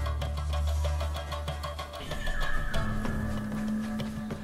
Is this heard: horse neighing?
yes